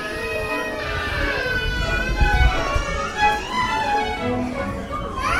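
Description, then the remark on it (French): An audience of babies at a live performance babble and coo, their high, wavering little voices overlapping continuously, with the odd squeal or brief whimper rising above the steady chatter. “On sait qu'il va y avoir des gazouillis, des petits pleurs de temps en temps, ça arrive, des promenades, et nous, c'est ça aussi qui rend l'expérience intéressante, puisqu'on n'a pas l'habitude de jouer devant des bébés, donc c'est hyper touchant.”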